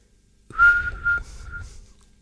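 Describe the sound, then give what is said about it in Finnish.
In a Radio Veiki studio, a person whistles an imitation of a crow as the first of several bird imitations: one sustained, steady mid-pitched whistle lasting about a second, with a couple of breathy swells, loud against a quiet background and no talking. “Ensimmäisenä varis.”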